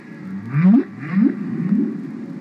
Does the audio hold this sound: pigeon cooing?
no